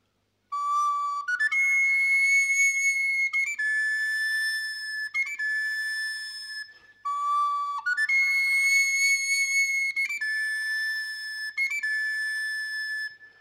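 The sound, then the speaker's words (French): A flute plays a short melody of sustained, clear notes that step upward in pitch, then repeats the same phrase a second time. It is fairly loud and plays alone, with no talking. “Puis il repartit, toujours accompagné de sa flûte.”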